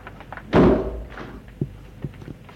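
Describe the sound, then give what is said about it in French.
A window shuts with one solid thunk that rings briefly, followed by a few faint knocks and rattles as it settles. “Elle referme la fenêtre.”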